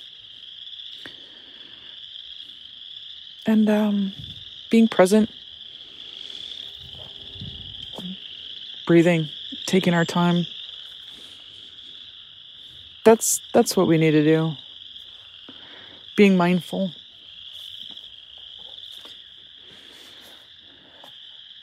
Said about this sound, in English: I'm out here walking in the woods, blowing off some steam and listening to the peeps and enjoying their hopeful chatter.